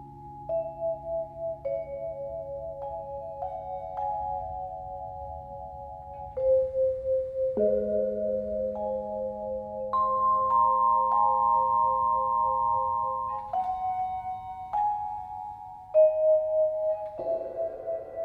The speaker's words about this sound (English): Right behind me, I have this vibraphone with a cymbal and two gongs. So in the second movement of Spring, we hear the gongs, which I was kind of thinking of. I was inspired by Debussy and Messiaen. You get kind of like a flowery garden type sound.